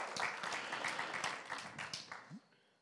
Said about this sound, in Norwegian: en applaus for den.